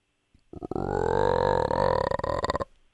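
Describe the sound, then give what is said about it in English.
A deep, throaty frog croak played in an animal-sound guessing game, lasting about two seconds, a low buzzing drone that breaks into rapid, rattling pulses before it cuts off. No one speaks. “Is it a frog? Yeah.”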